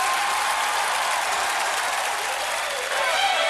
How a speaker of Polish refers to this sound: Wielkie brawa, gratulacje.